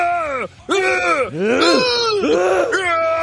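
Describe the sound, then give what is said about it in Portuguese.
A man's voice lets out a string of loud, strained roaring bursts, about four of them, each with a rising-and-falling pitch, imitating a roar, with a brief pause after the first. “E grita. E grita. E urra. Faz um urro.”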